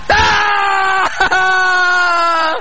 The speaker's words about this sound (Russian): Дамы и господа, этот пронзительный крик!